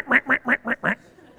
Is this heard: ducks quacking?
yes